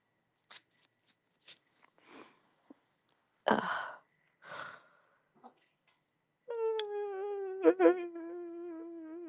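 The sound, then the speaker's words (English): Scattered light taps and two soft scuffling bursts as Boomy the cat plays with a spring in the hallway, then the spring twangs into a sustained, slightly wavering ringing hum lasting about three seconds, broken by one sharp click. No one speaks. “You can hear Boomy playing with the spring in the hallway.”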